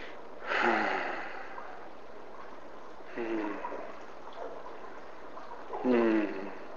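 Slow, sleepy breathing: three soft, airy breaths spaced a few seconds apart, fairly quiet, with a faint nasal rasp and no talking.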